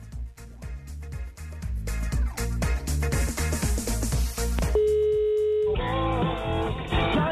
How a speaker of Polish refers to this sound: I przede wszystkim, jeżeli jest prowadzona tak zwana rozmowa telefoniczna, to natychmiast kończymy, ponieważ ja właśnie teraz dzwonię do kogoś z was.